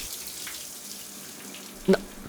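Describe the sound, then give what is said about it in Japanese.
Steady hiss of water running continuously from a hot shower in a home, with a brief louder thump or clatter near the end. “僕の家でシャワーを浴びている”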